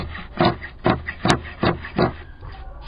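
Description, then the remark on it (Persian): Scissors snip repeatedly through the pile of a handwoven carpet made by women of Aqcha, Jowzjan, Afghanistan, about six rough, rasping strokes in a steady rhythm, with a sharper click partway through. No one speaks. “حاجی جلال مشغول قیچی زدن قالین دستباف زنان آقچه ای است.”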